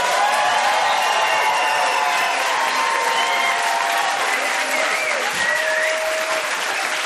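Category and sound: crowd, studio audience applauding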